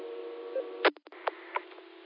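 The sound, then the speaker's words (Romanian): A telephone beeps over a steady, humming line: one louder burst, a brief cut-out, then a few shorter, fainter beeps at uneven intervals, all thin and band-limited like sound heard through a handset. “Bine, face telefonul bip.”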